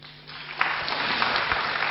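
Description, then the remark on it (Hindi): An audience breaks into applause, many hands clapping together in a dense, steady patter that swells quickly after a brief quiet start and holds at a fairly loud level, with no talking. “अभी ताली बजाने वाली बात पूरी नहीं आई, अभी और आगे की सुनाता।”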